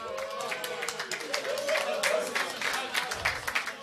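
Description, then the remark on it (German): An audience breaks into a steady burst of clapping for the photographer that lasts a few seconds, dense and fairly loud, with some voices mixed into the crowd noise. “Einmal Applaus für den Fotografen!”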